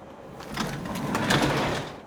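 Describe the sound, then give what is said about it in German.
A train compartment sliding door, closed by the conductor, rolls along its track in one continuous, rumbling swish lasting about two seconds, moderately loud, with no voices. “Der Schaffner schließt die Tür.”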